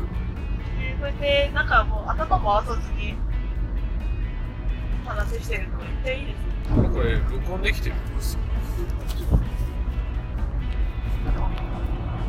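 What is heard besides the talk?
inside a car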